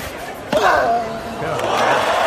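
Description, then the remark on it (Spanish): A tennis crowd bursts into a loud ovation after Rafael Nadal wins the point with a behind-the-back smash, with a sharp impact at the start followed by sustained cheering, clapping and shouting that swells and holds. “Acaba con un remate de espaldas de Rafa, que por supuesto se convierte en punto y esta es la ovación que se lleva.”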